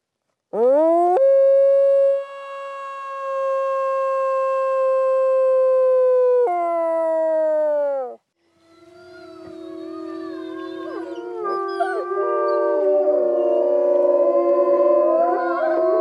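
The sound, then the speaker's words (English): A dog howls on request, letting out a long, loud, steady howl that dips in pitch before breaking off, then several wavering howls rise together in an overlapping chorus that carries on to the end. “Can you show me your howl?”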